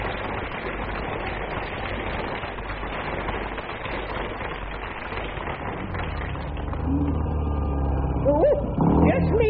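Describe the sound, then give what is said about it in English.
A dense, busy wash of sound gives way to a low, throbbing engine rumble that swells louder over the final seconds as a motorcycle with a sidecar arrives, a woman riding on the back. “Now, just look at her on the back of that motorcycle, dear.”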